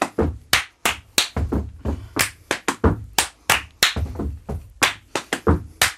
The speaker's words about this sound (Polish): Kiedy my klaszczemy, to ty nie klaszczesz i odwrotnie.